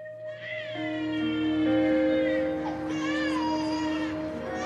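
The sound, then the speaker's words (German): A baby wails continuously and fairly loudly, its high, strained cry rising and wavering in pitch for several seconds with no one speaking; an abandoned baby lying on a rubbish dump in a scene from a Venezuelan film. “Die Kamera zoomt langsam über einen Müllhalde auf ein Baby, das ausgesetzt ist.”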